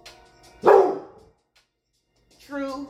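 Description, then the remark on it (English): A dog barks loudly, one sharp bark early on, then a quiet pause before a second, slightly softer bark near the end. “We're just going to continue on as my dog barks, because we have true liberation today.”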